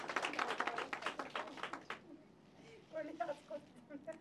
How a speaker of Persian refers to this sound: لطفا یه تشویقی کنید. مرسی.